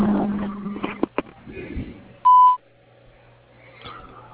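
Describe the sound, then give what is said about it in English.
A single steady electronic beep from an answering machine, pure and mid-pitched, sounds loudly for about a third of a second, preceded by a couple of sharp clicks and low background noise. “Thank you for calling to the tone. Please give your name and phone number.”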